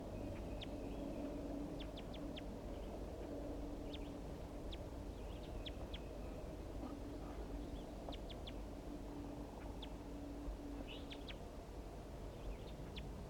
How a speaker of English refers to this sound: I caught the female, and now I'm going to be recording chitter notes of the wild male.